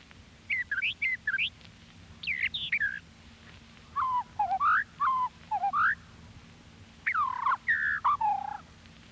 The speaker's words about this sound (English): Brown thrasher.